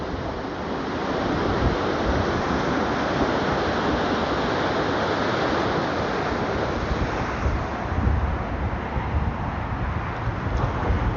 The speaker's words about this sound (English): I guess it comes in waves. Not to, you know, be a smart ass, but it definitely comes in waves. You can see the swells. And some of them are big and some of them are not so big